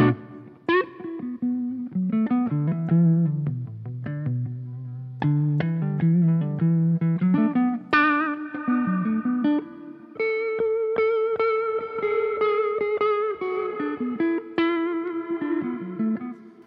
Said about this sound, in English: So you notice the reverb creeps in as such, but what it is, I'm mixing the reverb. It's almost like parallel mixing in a studio where you use the send of the desk in the old school ways when people used to mess with the solo and have it bloom,